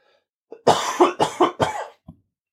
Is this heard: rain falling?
no